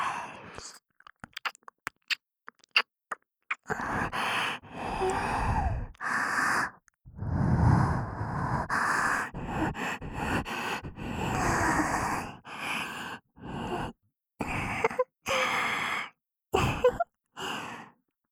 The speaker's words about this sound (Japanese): どうですか？メス奴隷メイドの臭い吐息は感じてくださってますか？